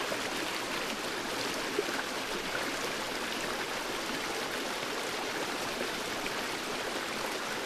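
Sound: flowing stream water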